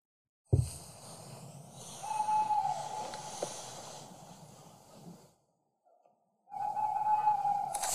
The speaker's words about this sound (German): Genau, das ist ein männlicher Waldkauz, der da rumgeschrien hat und je näher wir kamen, umso weiter ist er weggegangen natürlich.